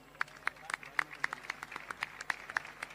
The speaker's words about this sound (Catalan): Un aplaudiment.